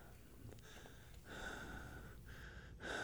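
Labored, wheezing breaths of a coal miner repeat, each long raspy inhale and exhale carrying a thin whistling tone, with brief pauses between breaths and no talking.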